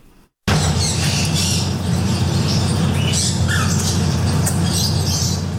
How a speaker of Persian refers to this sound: ۱۱۰ پرنده زیر یک سقف با مشتریان، ابتکار جالبی که از سوی مالک یک چایخانه در بنکاک پایتخت تایلند صورت گرفته. انواع کناری ها با رنگ های مختلف، توتی های ناطق و چند نوع پرنده در این چایخانه دیده می شوند.